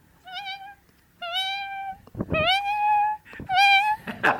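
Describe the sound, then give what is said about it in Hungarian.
A human voice imitates a cat, letting out four drawn-out, rising-and-falling meows in a row, fairly loud, with short pauses between them and no talking. “A macska.”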